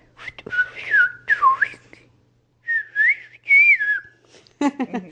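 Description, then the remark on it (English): A person whistles the English phrase "what are you doing?" using the Siberian whistled-speech method, in gliding, speech-like pitch contours: two clear bursts, a brief pause, then two more, fairly loud, with a quick spoken sound at the very end. “the whistling method doesn't translate as well to other languages.”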